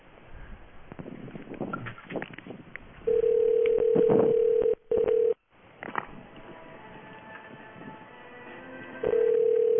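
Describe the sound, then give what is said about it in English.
Over a narrow, hissy phone line, a steady tone sounds and is briefly cut off, then layered electronic whistles and tones rise as a modem answers the call. “We found a modem now.”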